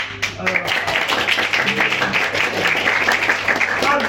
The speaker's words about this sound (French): Alors, il se trouve que la semaine dernière, vous pouvez m'applaudir, j'étais la chabellane.